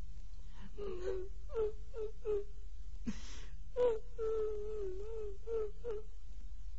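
A voice imitates a woman crying inside a room, in Wang Ying's quarters at a mountain stronghold: short whimpering sobs, a sharp gasping breath midway, then a long wavering wail that trails into more sobbing. Fairly quiet, with no other sounds.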